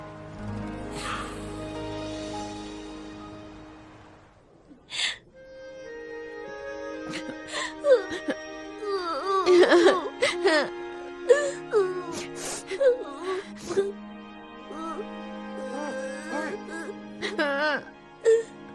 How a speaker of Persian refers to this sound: مگه نشنیدید دکتر چی گفت؟ گفت حال خانم معلم خوب میشه، پس دیگه گریه نکنید.